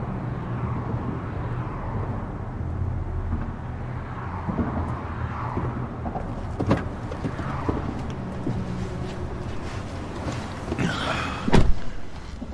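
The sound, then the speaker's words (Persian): A car's low engine rumble runs steadily throughout, with a few sharp knocks partway through and a louder slam-like thud near the end. No one speaks. “این ماشین کیه؟”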